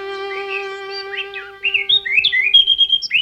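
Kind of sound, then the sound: bird, mockingbird singing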